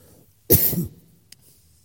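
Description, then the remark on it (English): A single fairly loud cough from a person wearing a face mask over the mouth, one harsh burst with a brief throaty tail, then quiet room tone with a faint click. “Problem with this thing on your mouth is you can't get your mouth the way to cough.”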